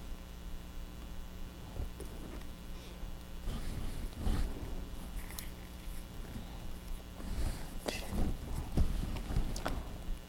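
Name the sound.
horse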